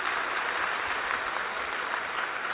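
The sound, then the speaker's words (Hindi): Steady, dense clapping from a large crowd fills the entire stretch, a continuous wash of applause at an even, fairly loud level with no pauses or voices breaking through. “और आप सब देख सकते हैं ये हमारी संस्कृति है और मैं समझती हूँ इसके लिए तो जोरदार तालियां बजनी चाहिए.”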